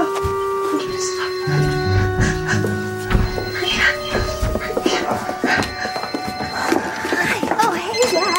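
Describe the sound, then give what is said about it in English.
A woman's phone rings with a melodic electronic ringtone, a string of steady stepped tones repeating over several seconds while people talk and move around. “She helped me out with it, and then her phone started ringing.”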